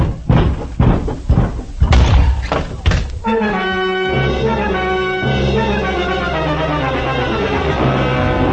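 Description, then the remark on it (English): A door on the right, leading to a cellar, is opened and slammed, a burst of loud, heavy thuds and knocks over the first three seconds, then a swelling musical chord takes over and holds to the end. “Now, open that door on your right.”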